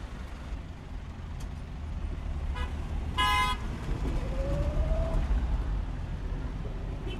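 Busy street traffic with people directing it, a steady low rumble of engines, a loud harmonic horn toot in the middle, brief brake hisses, and a rising whine from a passing vehicle, with no talking.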